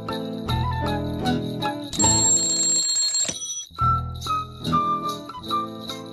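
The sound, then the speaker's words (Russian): An alarm clock rings loudly with a bright, metallic jangle, its steady burst in the middle set among chiming, musical bell-like tones, with no voices. “Ты будильник заведи, да Ивана разбуди.”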